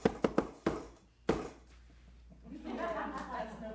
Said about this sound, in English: There's something about us that longs for completion. You know, if somebody knocks.